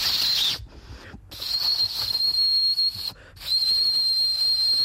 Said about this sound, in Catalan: Mireu, ara us xiularé un bolígraf que no... Un boli Vic. És la primera vegada que el veia, però vagin, acostumen a sonar...